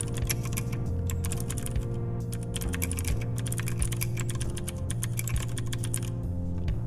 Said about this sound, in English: Oh, this is me typing. I'll be quiet so you can hear it.